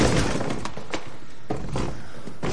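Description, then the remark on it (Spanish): A man walks away and kicks a chair: several sharp knocks and thuds, with a clattering scrape of wood, spread over a couple of seconds against a steady background hiss. “Se aleja y da una patada a una silla.”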